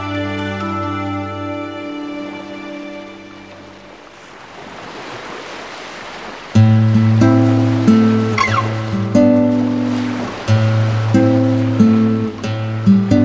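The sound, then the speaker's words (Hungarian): Ocean waves wash onto a shore in a soft, rushing swell beneath sustained music; the surf fades as the music grows louder and fuller. “Hosszú hónapok óta végre fiával sétálhatott az öbölben. A homok és a víz kellemesen hűvös volt, a szél édes virágillatot hozott a szárazföld felől.”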